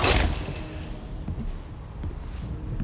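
Climbers crash through the door of a lower-altitude mountain hut during a violent storm: a loud, sharp burst right at the start, followed by a steady rumbling background and a few scattered knocks and thuds.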